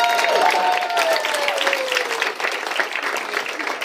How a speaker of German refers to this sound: Habe ich eigentlich schon erwähnt, dass ich Mutter bin? Klatscht mal kurz, weil ich Mutter bin.